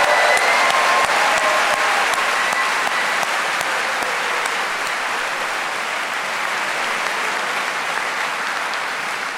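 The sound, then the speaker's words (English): A crowd at a Cornell reunion applauds the class of 1977 steadily for about nine seconds, the dense clapping staying loud and even before easing slightly toward the end, with no voices over it. “So again, let's give the class of 1977 another round of applause.”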